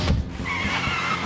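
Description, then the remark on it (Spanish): Motorcycle and van engines roar as the vehicles speed through several empty streets, with a steady rumble and a high tire squeal running through the brief, loud burst of traffic noise. “Recorren varias calles a toda velocidad.”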